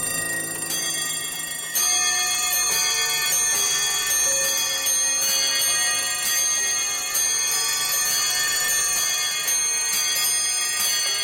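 A dense chorus of clocks rings and chimes all at once, bright metallic bells layered over steady ticking, loud, opening a piece of music with no voices.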